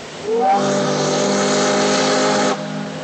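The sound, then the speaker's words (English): A sternwheeler steamboat whistle on the Mississippi River at New Orleans blasts loud, a steady harmonic tone that rises briefly at the start, holds for about two seconds with a hissing edge, then cuts off. “From sternwheelers like this one to today's ocean-going vessels, commerce on the river made New Orleans one of the country's busiest ports.”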